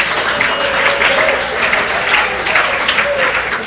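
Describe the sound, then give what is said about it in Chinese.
An audience in a class breaks into steady applause, a dense crackle of many hands clapping together that holds at an even level for a few seconds, with faint murmuring underneath. “欸，没有一点掌声吗？”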